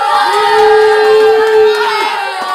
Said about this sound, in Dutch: Iedereen schreeuw als je voor de Zwolle bent.